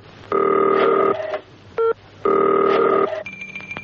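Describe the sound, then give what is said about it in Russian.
A 40-second sound composition about the telephone by Marina Smirnova-Fretz: a telephone rings in two long electronic bursts, separated by a short beep, then a few dialing tones follow near the end, clear with no voices. “Для этой передачи Марина сочинила 40-секундную композицию о телефоне.”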